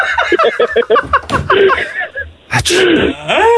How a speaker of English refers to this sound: Thank God for that sneeze of yours.